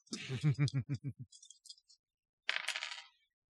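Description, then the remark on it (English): Dice rolled for a second attempt in a game clatter across a hard surface in a quick run of bouncing clicks that slow and fade, then a few light taps, and a second short rattling tumble a moment later, coming up a pair of fives. “That's a pair of fives on the dice.”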